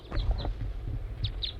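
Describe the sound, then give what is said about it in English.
Four short, high chirping calls of a brown crossbill come in two quick pairs over a steady low rumble, with no voices present. “I see another crossbill. It's a brown bird.”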